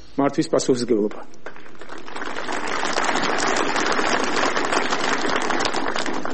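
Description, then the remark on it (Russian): Georgian politician Ivanishvili speaks for about a second, then is cut off by loud, sustained applause from a crowd, a dense crackle of clapping that holds steady and swells slightly until the end. “Здесь Иванишвили прервали аплодисментами.”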